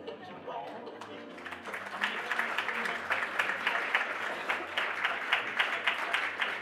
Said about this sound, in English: All right, I think we should give our presenters one more round of applause here.